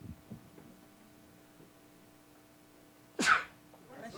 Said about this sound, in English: It was a long time coming. That sneeze, huh?